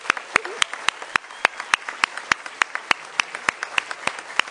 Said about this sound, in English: So maybe just one more round of applause for the winning countries tonight.